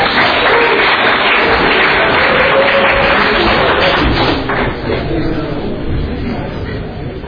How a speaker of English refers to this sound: Round of applause.